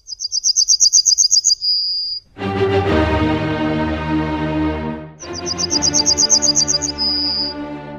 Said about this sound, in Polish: Dla porównania zatem posłuchajmy Cznadla.